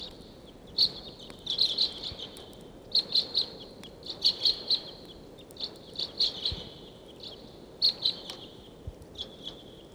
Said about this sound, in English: I do not see the wild flock, but they're in the area. Got birds, 150. That's 749 calling loudly there. It sounds like the birds are coming down the gulch.